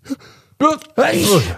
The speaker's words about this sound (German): Ist euch schon mal aufgefallen, dass im Alter das Niesen immer lauter und aufwendiger wird?